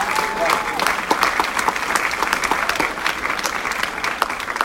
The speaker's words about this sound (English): So y'all don't know who that is, but let's just give them a round of applause and honor them for their